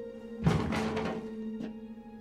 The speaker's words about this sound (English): She enters. Puts her walkie-talkie and keys on the table.